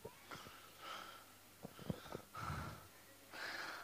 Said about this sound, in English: just panting